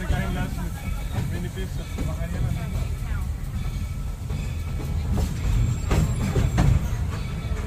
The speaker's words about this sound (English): Please remain seated until the train comes to a complete stop.